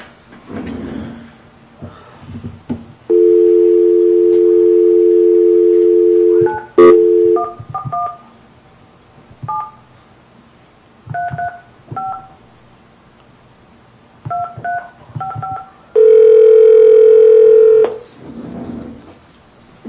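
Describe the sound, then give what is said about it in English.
A loud, steady telephone dial tone holds for a few seconds, then a quick series of short touch-tone beeps dials a man's phone number, followed by a longer steady tone, with faint breathing at either end. “Would you like to call him?”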